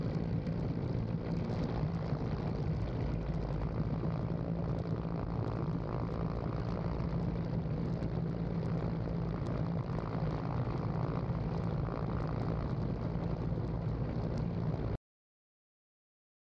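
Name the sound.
helicopter rotor and engine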